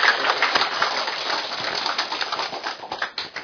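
An audience applauds with dense, steady clapping for a few seconds, the crackle of many hands blending into a continuous wash that thins slightly toward the end. No one speaks.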